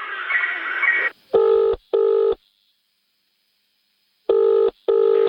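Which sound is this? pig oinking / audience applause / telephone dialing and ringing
telephone dialing and ringing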